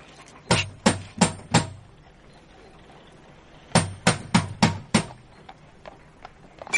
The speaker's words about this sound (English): All I want is for you to knock on the door.